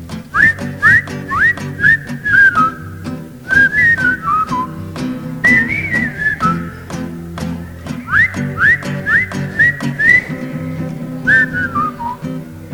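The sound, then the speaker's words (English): Someone whistles a lively tune in short, chirpy rising phrases, loud, with steady musical accompaniment underneath and no talking. “Whistle.”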